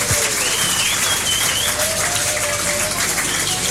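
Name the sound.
applause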